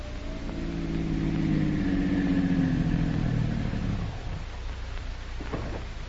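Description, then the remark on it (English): A car engine hums and winds down as Dr. Christian's car pulls up to the curb on the street in front of his office in early evening, then settles into a quieter idle with a brief click near the end. “His car pulls up to the curb.”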